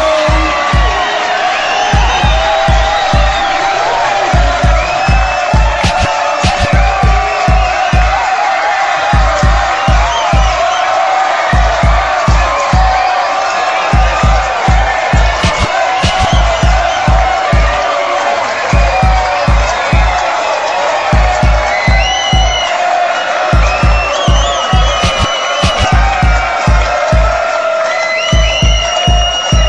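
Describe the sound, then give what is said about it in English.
A large concert crowd cheers and shouts nonstop in answer to the MC's calls, a loud, dense roar of voices with whoops rising out of it, over a steady thumping bass beat from the music. “All the fellas say ho.”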